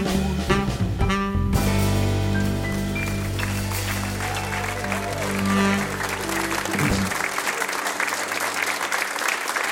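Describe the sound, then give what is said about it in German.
An audience claps and cheers for the musicians over the final held chord of a Low German jazz song; when the music cuts off, the dense, noisy applause carries on alone at full strength. “Vielen Dank und großen Applaus für diese großartigen Musiker hier.”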